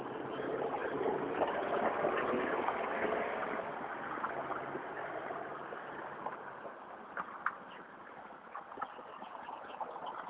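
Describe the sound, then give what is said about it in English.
A noisy pickup truck rumbles past outside in the morning, its broad engine and road roar loudest at first and then easing off into a steadier, fainter wash of traffic noise. “Noisy trucks this morning.”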